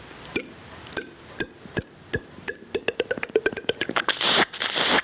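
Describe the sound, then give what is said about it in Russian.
A capercaillie display song: sharp, spaced clicks speed up into a rapid rattling roll, then give way to the final phase, the so-called grinding, a breathy, scraping phrase at the end. No voices. “Вот последний момент, вот так называемое точение.”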